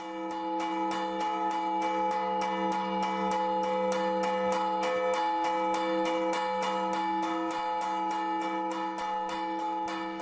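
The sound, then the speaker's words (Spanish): Church bells ring in a fast, steady peal announcing a wedding, strikes overlapping into a continuous bright, resonant wash with a sustained hum beneath, loud throughout with no voices. “Avisan también de otras noticias, de noticias más alegres. Por ejemplo, el anuncio de una boda, de un enlace, sería algo así.”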